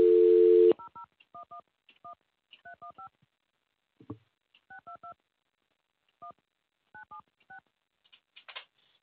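A short burst of steady dial tone gives way to a quick run of about twenty touch-tone beeps in uneven clusters, with a faint handset clunk midway and no voices, as a lost caller is being redialed to get him back live on air.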